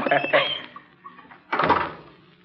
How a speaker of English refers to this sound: Just closing the door.